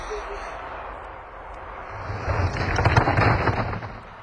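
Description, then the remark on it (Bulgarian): A steady rush of wind swells into a loud, rumbling crash as a flimsy hut gives way, with low thudding and crackling debris sounds lasting several seconds before easing off. “Нещо се случи някъде зад нас. Вятъра! Яхоливата наша рухна.”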